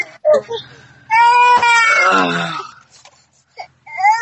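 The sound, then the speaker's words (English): A baby cries and screams in a long, high-pitched wail with strained, wavering harmonics, preceded and followed by shorter fussy whimpers. “Who's that? Your little baby? That's her. Oh, no. Screaming.”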